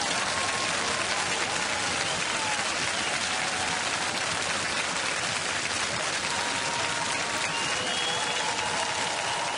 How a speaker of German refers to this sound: Applaus per Knopfdruck, das soll es heute geben bei diesem CSU-Parteitag.